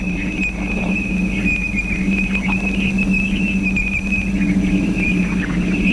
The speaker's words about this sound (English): A million miles from Saturn, Voyager approaches this bow shock, flying into the thick of a series of chirps, evidence of electrons boiling off the bow shock itself. Heavier ions from the same source make a sound like tearing paper.